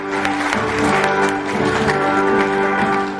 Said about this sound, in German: Die Farbenpracht und die im Saal verbreitete Stimmung wurde vom Publikum mit Applaus belohnt.